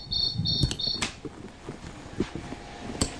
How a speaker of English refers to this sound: That's not the cricket. Yeah, that's the cricket, isn't it?